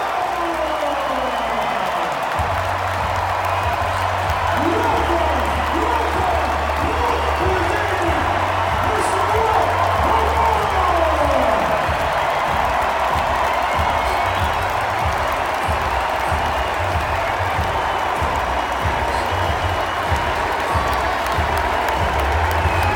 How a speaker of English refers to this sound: I'm not sure that there's a single boo that I heard in that arena. Everybody standing ovation. And that actually makes me like really happy.